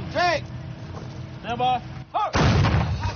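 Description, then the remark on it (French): A 105 mm artillery cannon fires once near the end at Airborne base in Afghanistan, during an American firepower demonstration for Afghan commanders; its loud blast trails into a rough, rumbling roar. Before it, brief voices ring out in short rising and falling calls. “À Airborne, les canons sont entrés en action.”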